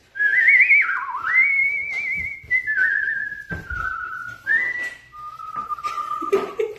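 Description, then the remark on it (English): A person whistles a warbling, birdlike call, a continuous high tone that trills, slides and steps between pitches for several seconds, loud and without talk. “The bird noise.”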